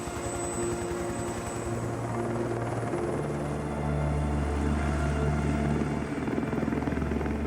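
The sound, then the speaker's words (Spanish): A helicopter flies, its steady rotor chop and engine drone loud and continuous, with the pitch of the engine hum shifting partway through. “Uno de los pilotos del helicóptero se compadece”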